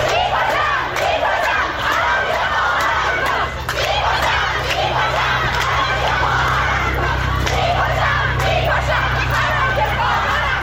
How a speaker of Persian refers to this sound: در همین حال روز دوشنبه در پی فراخوان دانشجویان دانشگاه صنعتی شریف برای اعتصابات سراسری بسیاری از دانشجویان، ده‌ها دانشگاه عمده کشور تجمعات اعتراضی خود را آغاز کرده و شعارهای ضد حکومت جمهوری اسلامی سر دادند.